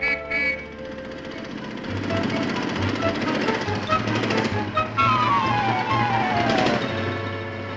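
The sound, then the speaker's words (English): A motor scooter's engine putters and buzzes steadily as it is ridden up and down the block, growing louder and then sliding down in pitch as it rides past, with a low rumbling drone underneath throughout. “He's just riding up and down the block to make me sore. Here he comes again.”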